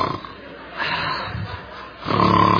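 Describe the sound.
A voice imitates the snoring of a wife's teddy bear toy, which snores when the dog barks: two rough, growly snore sounds, the second louder and more drawn out, with no words spoken.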